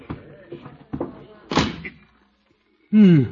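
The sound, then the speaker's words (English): A supply closet door shuts with one solid thud as someone squeezes in to hide, after some muffled voice-like sounds. A short silence follows, then a voice starts up again. “Here's the door. Oh, for supply closet. Well, I'll have to squeeze in.”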